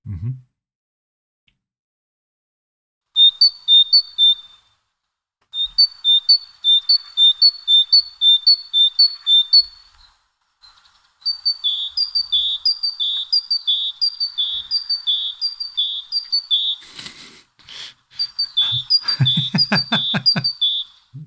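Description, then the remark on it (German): A European robin's song plays from a recording: quick, high, bright chirps repeated in steady bursts, clear and fairly loud, with a short noisy thump near the end and a brief low voice under the final phrases. “So, ab jetzt Rotkehlchen.”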